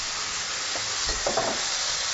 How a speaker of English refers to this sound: And now I'm going to throw in my tomatoes. And they're really going to cool things down. You can hear them sizzling.